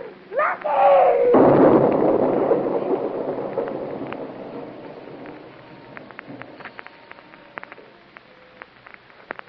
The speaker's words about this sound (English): The explosion threw me to the ground. Blacked out for a few minutes. Then I started coming out of it. Barricade. Truck. Everything disappeared into dust. Everything. Gone.